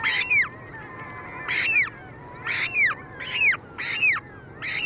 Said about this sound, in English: Less familiar is a remarkable bird that shares with the polar bear this vital link to ice, the ivory gull.